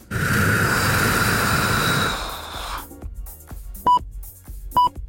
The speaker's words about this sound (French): soufflez dans votre micro